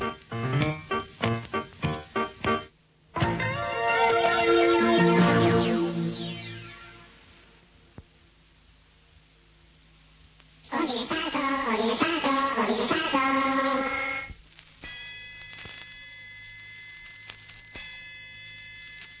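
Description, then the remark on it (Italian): Two loud gong strokes marking the start of the second half of the programme Ordine Sparso, each swelling into a long, shimmering metallic decay, preceded by a quick run of short taps and trailed by faint, steady ringing tones. “Due colpi di gong segneranno l'inizio del secondo tempo.”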